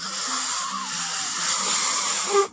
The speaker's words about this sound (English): Here, blow up this balloon.